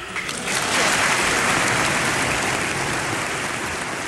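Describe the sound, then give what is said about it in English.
Thunderous applause in Congress after Mexican president Fox spoke there in Spanish about rewriting immigration laws, a dense, steady roar of clapping from a large crowd that swells within the first half second and holds loud and unbroken, with no voices over it. “Fox even spoke to Congress about it, in Spanish, to rapturous applause.”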